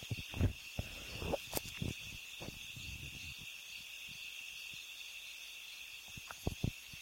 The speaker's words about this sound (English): I'll turn up the crickets right here.